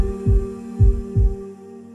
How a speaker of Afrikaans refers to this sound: In die stilte kan jy hoor hoe al harte vir 'n oomblik in samesyn klop.